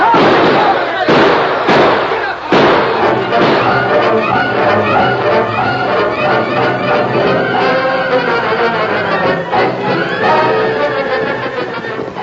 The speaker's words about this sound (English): With bullets flying thickly about them, the masked men and Tonto raced to safety, their powerful stallions thundering down the dusty street.